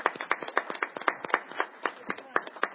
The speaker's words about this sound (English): And she did just a terrific job. And we'd like to applaud her for representing us so well.